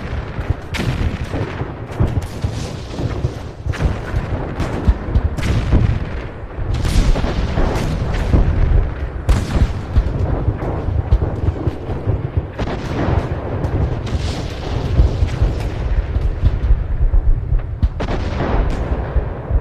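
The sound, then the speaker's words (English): World War I artillery shelling, recorded a minute before the end of the war: a dense, continuous barrage of heavy booms and sharp cracks rolling over one another with a deep rumble underneath, loud and sustained without pause. “So you'll hear shelling, and then it'll stop.”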